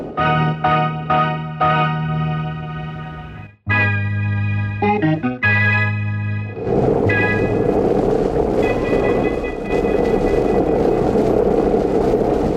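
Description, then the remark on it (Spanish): Sustained organ-like musical chords shift in steps, then give way to a loud, continuous roaring rush of icy storm wind with faint howling tones running through it, steady to the end. The storm is growing stronger and the wind strikes against the barracks and shelter of a camp. No voices. “La tormenta aumenta más y más. El viento helado sopla con mayor violencia, estrellándose contra las barracas y refugio del campamento.”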